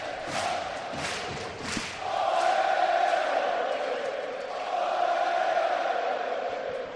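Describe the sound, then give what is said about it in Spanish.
A large crowd of Betis football supporters sings a sustained chant in unison, loud and steady, while the team claps in front of the Gol Sur stand, a few sharp rhythmic claps ringing out over the opening seconds. “la afición animando al equipo, el equipo al completo, tocando palmas frente a Gol Sur, escuchando cómo canta la afición del Betis.”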